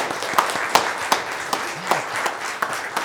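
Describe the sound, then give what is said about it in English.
A crowd applauds the children with steady clapping, a dense patter of hand claps punctuated by a few sharper, louder claps at irregular intervals, moderately loud throughout. “If y'all would, please praise them and give them a round of applause.”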